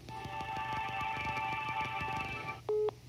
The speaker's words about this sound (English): So they hung up.